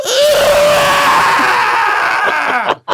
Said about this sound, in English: Then the head turned and stared at the boy. It slowly opened its mouth and screamed.